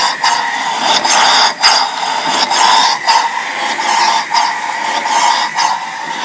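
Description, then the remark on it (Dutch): Grandfather's small steam engine runs with a steady, loud hiss, punctuated by rhythmic puffs roughly twice a second that come slightly unevenly, with no voices over it. “De stoommachine van opa.”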